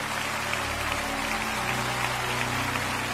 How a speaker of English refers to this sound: Come on, Lakewood, let's give them a hand as they stand all over the building.